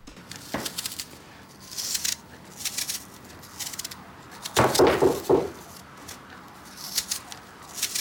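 A penknife peels an apple in short, crisp scraping strokes as a man at his desk in his office deftly peels it, with a louder run of rasping cuts partway through and faint clicks between. No one speaks.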